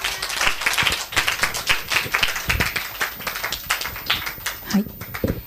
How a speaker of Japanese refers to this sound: ですから証をありがとうございます。 Thank you for the testimony. 主に拍手をしましょう。